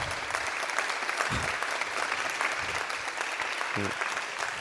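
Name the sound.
applause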